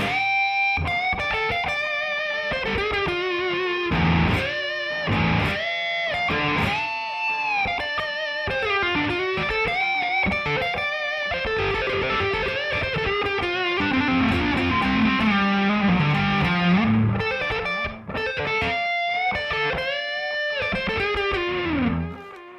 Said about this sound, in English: How's the delay? Is it too much or not enough? That's tape echo.